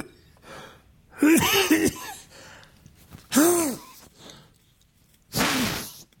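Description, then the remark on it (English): Three sharp, breathy sneezes spaced about two seconds apart, each a loud burst with a voiced catch, separated by quiet pauses and no talking. “That was a sneeze.”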